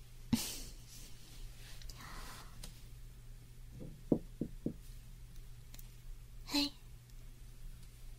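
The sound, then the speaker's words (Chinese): Four quick knocks on a hotel room door in a short, evenly spaced burst, moderately loud, with a low steady hum and some soft breathy noises before and after. “Hello， 大家好，我现在已经到了酒店门口了，我现在要敲门。”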